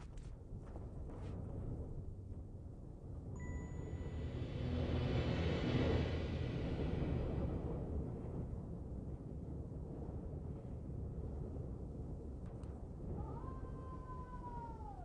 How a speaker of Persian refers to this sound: آقا مثلا یه صدایی داری میاد. گوش کنی؟ آقا یه صدای باده. صدای باده.